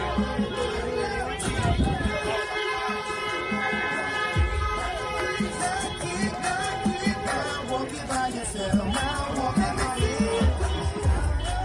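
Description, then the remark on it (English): A street celebration crowd at a Biden get-together, about an hour after news stations started to call it, cheers and shouts in a loud, continuous wall of overlapping voices, with scattered whoops and horn-like tones rising above the steady roar. “They don't even know what they're cheering for.”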